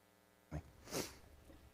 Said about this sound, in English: I'm going to cough.